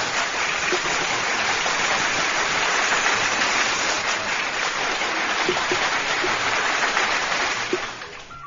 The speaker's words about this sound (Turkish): Kocaman bir alkış gelsin mi? Hababam sınıfına ve Menekşe Gülay ablama.